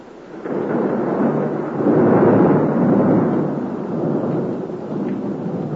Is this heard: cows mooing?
no